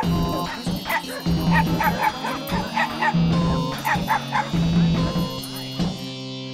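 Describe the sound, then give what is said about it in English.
A dog barks and yips repeatedly in quick, excited bursts, fairly loud, with a few whiny yelps mixed in over a low, steady background hum. “My dog's gonna pee exactly where you just did in one final adorable act of domination.”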